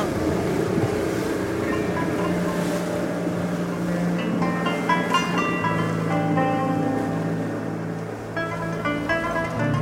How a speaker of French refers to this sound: Le ferry qui part pour Athènes, un énorme bateau bleu, blanc et rouge